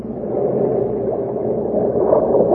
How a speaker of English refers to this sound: Well, how about cooling off in a speedboat? All right, Betty Jane, a speedboat it is.